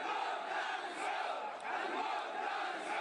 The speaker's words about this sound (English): The protesters vented their anger at the Saudi regime by shouting slogans against the rulers in Riyadh